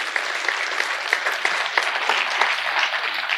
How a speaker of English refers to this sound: She'll be listening to this later, so if we could just give her a round of applause for her using her gifts.